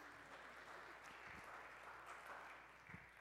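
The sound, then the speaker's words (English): An audience applauds steadily, a dense wash of many hands clapping, sustained and fairly loud throughout with no speech over it. “Well, y'all give them a round of applause.”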